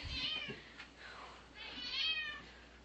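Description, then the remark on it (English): A black cat meows twice in drawn-out, rising-and-falling cries, fairly loud, with a brief soft rustle between them. “Hello, lovable kitty.”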